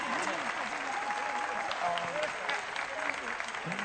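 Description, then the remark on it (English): An audience applauds a woman who sang, in a steady, dense wash of clapping that holds at an even loudness for a few seconds, with faint voices mixed underneath. “This lady a wonderful applause.”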